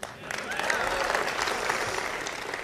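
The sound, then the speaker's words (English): An outdoor crowd in the Rose Garden of the White House breaks into steady applause at Trump's announcement of exiting the Paris Accord, a dense wash of clapping that stays loud and even for a few seconds with faint cheering mixed in. “that's a big applause line in the Rose Garden of the White House, not so popular at the G20.”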